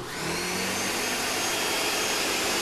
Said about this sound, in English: So, you know, frozen fruit, I get that out, I get the yogurt out, I get the orange juice out. Start out with the orange juice. I throw all this stuff in the blender, I get that thing rolling.